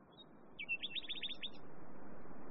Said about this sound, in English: That night I was kept awake by the unrelentingly beautiful song of the nightingales